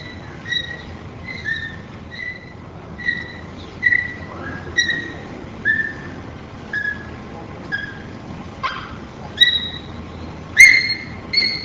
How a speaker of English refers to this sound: The following examples are of high-pitched peep vocalizations, beginning with number 13, a chorus of food peeps.